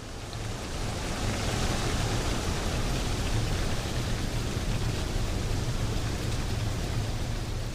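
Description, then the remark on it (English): Wind sweeps through tree leaves in a steady, dense rustling hiss that swells in over the first second and then holds loud and even, sounding much like surf or rain. No voices. “When the wind catches the trees, especially in the mornings, it seems, they rustle just like waves.”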